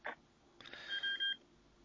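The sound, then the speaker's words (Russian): A telephone gives a couple of short, quiet electronic beeps in quick succession, preceded by a soft click. No one speaks. “У вас там что-то даже пищит.”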